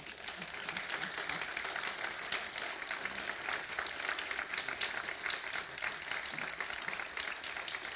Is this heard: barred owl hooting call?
no